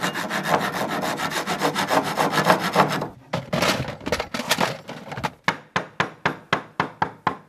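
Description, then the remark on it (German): Loud woodworking noise from furniture restoration at Café Fräulein Meier in Witten: rapid, steady sawing strokes through wood, a brief pause, then slower, evenly spaced rasping strokes. No voices. “Da wird nämlich nicht nur klassisch Kaffee getrunken oder gefrühstückt, sondern auch Möbel liebevoll aufbereitet.”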